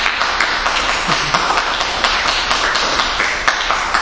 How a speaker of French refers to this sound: Ah bah je m'applaudis moi-même, ça va.